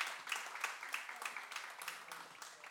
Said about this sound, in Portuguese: Eita, belos músicos. Palmas para vocês.